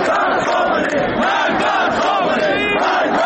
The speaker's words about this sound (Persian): شعارهای علیه ولایت فقیه و آیت الله علی خامنه ای رهبر جمهوری اسلامی فریاد زده شد.